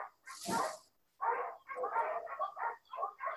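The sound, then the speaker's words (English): Two Doberman Pinschers on a property bark at other dogs on the other side of the property in a rapid, loud series of overlapping yaps and woofs, starting with one sharp bark, then a short pause and a continuous flurry of barking. “So that's the disturbance now, if you hear it.”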